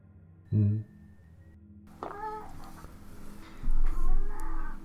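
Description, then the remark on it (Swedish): A black cat walking around meows a few times, short whining cries separated by pauses, over a low hum and some faint background movement. “Du har en katt som går runt och jamar lite”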